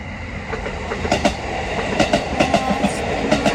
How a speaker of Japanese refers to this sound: 来ました、電車。 お、カタンカタン。 来た。来たね。草津温泉方面。あ、なんていうの、向こうの。長野原かな、 わかんない。 の方から電車が。